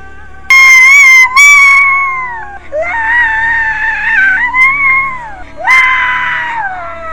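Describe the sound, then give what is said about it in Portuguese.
A whistling kettle shrieks loudly as its water boils, its shrill, wavering whistle rising and sliding in pitch across several long bursts with brief breaks between them, alone with no talking. “Se você já teve uma daquelas chaleiras que apitavam quando estavam com a água fervendo”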